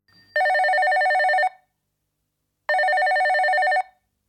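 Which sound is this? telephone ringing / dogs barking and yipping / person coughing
telephone ringing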